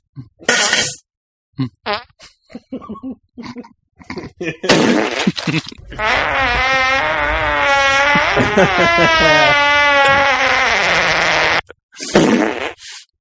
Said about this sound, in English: I thought I heard a fart too, but I was like, no, no. Yeah. Was that a fart?